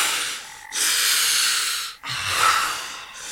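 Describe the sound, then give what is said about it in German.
A man who nearly suffocated from lack of oxygen and nitrogen narcosis gasps for air in ragged, noisy breaths, two long rasping intakes separated by a brief catch, fairly loud with a hoarse, wheezing edge. “Er wäre beinahe erstickt. Gott. Atmen, …. Atmen.”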